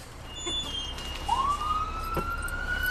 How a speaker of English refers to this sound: As we're talking, sure enough, the klaxon goes off. Is that a call? Sometimes, yes. What? All right, this one's ours. It's in our district, so we'll go to this.